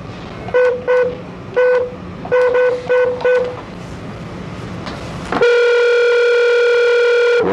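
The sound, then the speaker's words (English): A telephone line plays a quick series of short, clear electronic beeps in uneven groups as a call is placed during a hearing, then a steady, loud continuous dial tone holds to the end. No one speaks. “If you would just stand by, we have one more phone call to make.”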